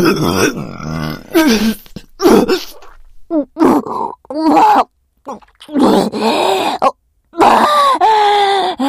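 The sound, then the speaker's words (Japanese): A loud, drawn-out belch, a huge burp, rumbles amid a series of groaning, grunting vocal bursts, several separate pushes of sound broken by short pauses, with no clear speech. “特大ゲップこいてなきゃあの世に行ってたかもだし”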